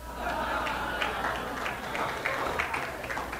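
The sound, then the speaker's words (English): A crowd applauds steadily, dense overlapping claps filling the space at moderate loudness for a few seconds, with a faint murmur of voices underneath. “Oh, man, what are you even clapping for?”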